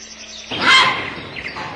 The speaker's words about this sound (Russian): Но что это за демонические звуки срываются с верхушек сосен? О них не упомянуто в аналах Михайловского. Это голоса цапель, поздних вселенцев.